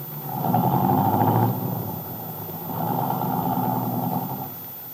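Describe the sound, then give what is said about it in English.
A car engine rumbles in two steady surges, a brief dip between them, as the car pulls off and drives away; no one speaks. “Carla Descari waved happily after Bill's car.”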